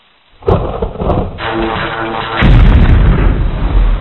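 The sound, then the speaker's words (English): A sharp crack of lightning striking a large rod on a tower bursts in, followed by a heavy, rumbling explosion as the tower blows into pieces, swelling louder around the midpoint and roaring with crackling debris to the end. No one speaks. “The tower blew up into 1,000 pieces.”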